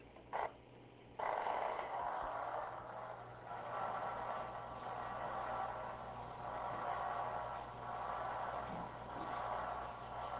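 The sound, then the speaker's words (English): Spikes of a single primary motor cortex neuron, recorded while a monkey draws an ellipse, played as sound: a single pop, then a dense, continuous crackle of rapid clicks, like rough static, swelling and easing in bursts throughout, with no talking. “He's going to draw this ellipse, and I'm recording from a single primary motor cortical cell.”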